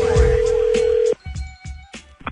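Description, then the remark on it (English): A phone rings once with a steady electronic tone for about a second, then cuts off abruptly as a voice begins speaking over a faint line. “Be careful answering that call.”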